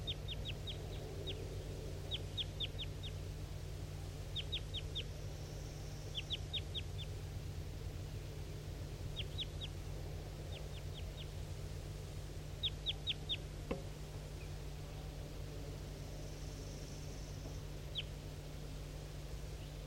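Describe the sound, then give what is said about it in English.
A wild bird calls in quick bursts of three to five high, thin chirps, repeating every second or two over a steady low hum, with no voices present. “That was a wild bird.”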